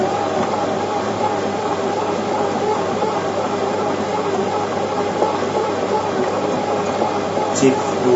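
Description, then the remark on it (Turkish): A bread machine kneading dough in stop-and-start cycles, its motor giving a steady, rumbling mechanical whir, with a brief click or knock near the end. “Şimdi o durarak yoğuracak. Bakın onu da dinleteyim hemen.”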